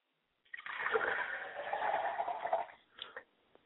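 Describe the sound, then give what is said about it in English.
Liquid is poured out as a libation for a father's spirit in a steady splashing stream for about two seconds, with a soft gurgle, followed by a couple of faint drips or splatters as it tapers off. “I like to pour libations for my father's spirit, because he is a spirit who has the blood running through my veins.”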